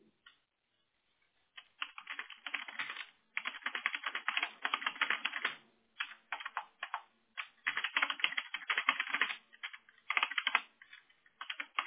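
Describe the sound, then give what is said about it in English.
Steady, rapid typing on a computer keyboard as an address is typed, dense bursts of key clicks with a few short pauses, running for about ten seconds with no voices. “So I'm typing the address so she does this.”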